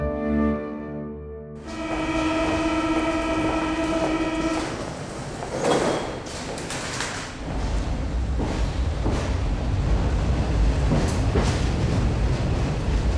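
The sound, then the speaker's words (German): An underground train runs with a steady rumble, opening with a short sustained tonal signal, then rattling and clattering along the tracks, with no voices. “Mit der U-Bahn.”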